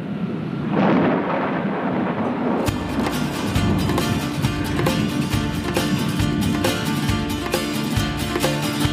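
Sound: thunder rumbling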